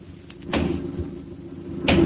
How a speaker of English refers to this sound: Suddenly, I heard three loud, distinct knocks at the head of my bed.